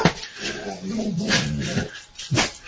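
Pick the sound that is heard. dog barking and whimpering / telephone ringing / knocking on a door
dog barking and whimpering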